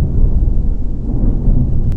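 A deep, rolling thunder rumble fills the whole stretch, heavy low-end roar staying loud and steady with slight swells, no voices over it.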